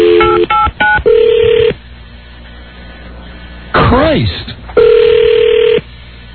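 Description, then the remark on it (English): A quick run of telephone keypad tones beeps in succession, followed by a longer steady tone, a brief spoken exclamation, then another sustained tone, all thin and phone-line sounding. “What is her phone?”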